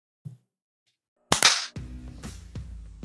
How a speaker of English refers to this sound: Okay, let's clap at 30.